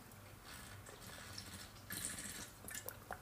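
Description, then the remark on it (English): Someone quietly drinks water from a glass whose ice has melted: soft sips and swallows with a few faint wet clicks over a low, steady hum, and no talking. “I gotta drink some water.”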